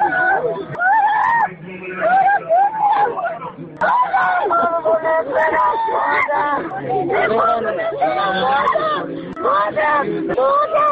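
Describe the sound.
Anguished wailing and cries of grief from a mother whose son was killed rise over a dense, agitated crowd of voices, loud and continuous, with overlapping shouts and sobs.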